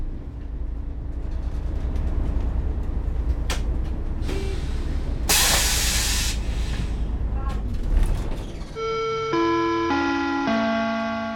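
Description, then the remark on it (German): A bus from Ostheim arrives at a school around 7:45 in the morning bringing children, rumbling in, then letting out a loud, sharp hiss of air brakes lasting about a second; the engine keeps idling and a stepped electronic chime sounds near the end. “Zu Fuß oder mit dem Bus aus Ostheim.”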